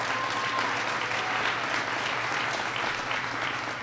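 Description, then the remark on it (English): A crowd applauds Dr. Becky Blank, chancellor of the University of Wisconsin-Madison, steadily, a dense wash of many hands clapping at an even, sustained loudness with no voices standing out. “Becky Blank is here, and we just want to give Becky a big round of applause.”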